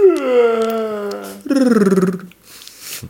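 A single long, voiced yawn that slides downward in pitch, then breaks into a buzzing, rattling rolled R before trailing off into a soft breathy exhale. No other voices.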